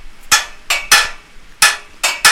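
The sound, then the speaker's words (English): Loud metallic clanks as a farmer strikes a gate to call sheep down, six sharp bright hits in an irregular rhythm, each ringing briefly before fading, with no voices. “So however far away the sheep are, as long as they can hear me clankling on the gate, they'll present themselves and they'll come down at a good trot.”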